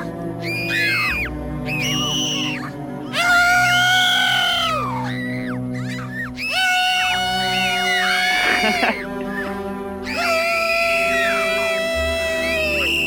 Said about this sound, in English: Do you think that's a real person screaming? I'm divided about that. I'm not sure. Depends on which scream we're talking about.